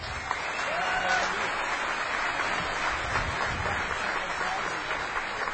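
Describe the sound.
An audience at DEFCON applauds steadily for several seconds, a dense, even wash of clapping that holds at a fairly loud level throughout, with a faint voice occasionally rising beneath it.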